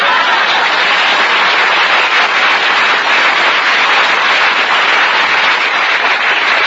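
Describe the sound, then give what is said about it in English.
Loud, sustained applause from a crowd, a dense steady wash of many hands clapping at once with no pauses, lasting throughout and with no voices standing out. “Try your mother's applause.”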